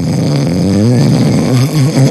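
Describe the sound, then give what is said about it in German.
A loud, drawn-out snore rumbles for about two seconds, with a throaty, wavering buzz that ends abruptly. It may be a voice imitating snoring. “Du hast so laut geschnarcht.”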